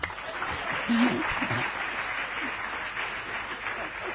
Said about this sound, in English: See, we have to appreciate their honesty to be so courageous in a big assembly to raise their hands and speak up. So all of you give them a big applause.